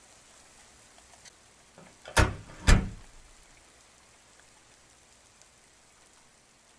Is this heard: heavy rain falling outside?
yes